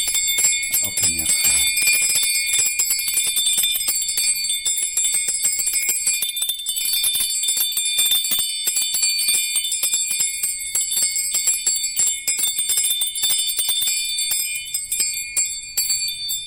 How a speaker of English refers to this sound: and then some small ting shots. And then my little bell.